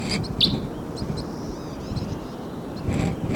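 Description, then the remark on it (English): Birds call in short, high chirps and twittering bursts as they fly down, over a steady low rumble of wind, with a sharper peep standing out near the start and more chatter toward the end. “Birds may be coming down. Oh, there they go.”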